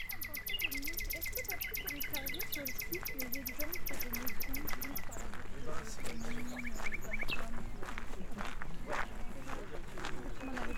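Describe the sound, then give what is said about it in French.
A dense outdoor chorus of high, rapid chirps and calls from a great number of birds at the Étang des Landes pond, in full sunshine with a light breeze over the water. It is loud and continuous throughout, with a person talking quietly underneath. “Il y a des oiseaux en très grand nombre.”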